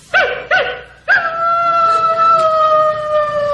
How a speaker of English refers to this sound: That's a coyote. What was that? I don't know what the hell that was. That was supposed to be a woodpecker running under a coyote's leg, but what that was, I don't know. That boggles me.